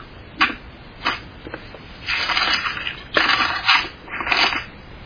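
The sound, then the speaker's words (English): Crisp, papery rustling as thin Bible pages are flipped, several quick swishes and longer crinkly turns in an uneven rhythm, fairly loud, with no voices. “Yeah, that's your Bible pages turning, aren't they?”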